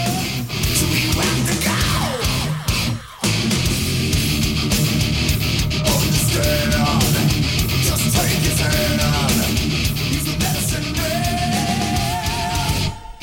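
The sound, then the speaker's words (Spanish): A loud, dense song plays throughout, with sung vocal lines layered in harmony over full instrumentation and a brief dip in the sound around three seconds in. “Epa, que armonizó ahí. Una armonización, increíble.”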